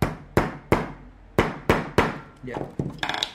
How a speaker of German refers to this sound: Wir etablieren ein kleines Fließband und teilen die Arbeit auf. Nägel auswählen, kürzen, ins Lineal hämmern.